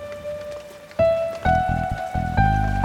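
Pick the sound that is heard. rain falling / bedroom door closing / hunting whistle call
rain falling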